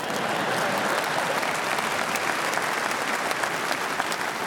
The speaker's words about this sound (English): Yeah, go ahead and clap.